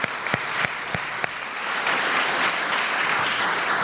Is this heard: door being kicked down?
no